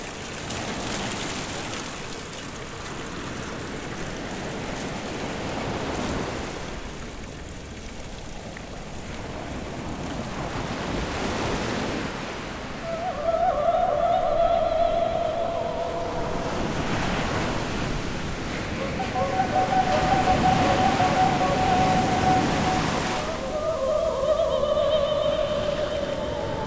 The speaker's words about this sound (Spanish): Mar sonoro, mar sin hondura, mar sin fin. Sonoro sea, abysmal sea, never ending sea.